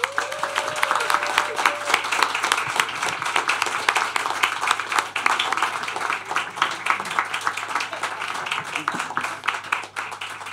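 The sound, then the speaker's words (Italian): A crowd applauds steadily for about ten seconds while a person acts as the applause meter judging it, dense overlapping claps at an even loudness, with a brief high whistle-like tone near the start. “Ok, quello è l'applausometro, è la posizione di valutazione dell'applausometro.”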